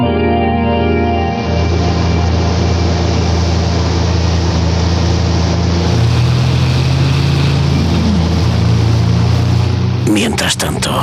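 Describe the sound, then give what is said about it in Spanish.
A steady, loud low engine rumble drones on without a break from several military vehicles carrying dozens of armed police, advancing slowly through the desolate streets of a Calcutta slum, with a sudden burst of clattering noise near the end. “Varios carros militares con decenas de policías armados avanzan casi silenciosamente.”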